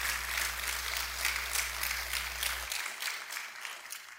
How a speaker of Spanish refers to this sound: Aplausos al Señor de plano que.